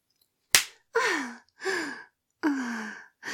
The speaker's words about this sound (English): I love it when you slap my ass. It makes me feel so bad. Do it again, baby.